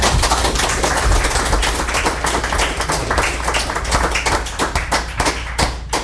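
A crowd applauds steadily, with many overlapping hand claps forming a dense, loud, sustained patter that holds for several seconds without any talking.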